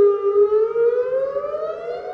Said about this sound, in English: Once every few months, Duke University tests its emergency sirens.